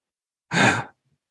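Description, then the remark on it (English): A single sharp, breathy gasp, fairly loud, lasting under half a second and followed by silence. “There's an audible gasp.”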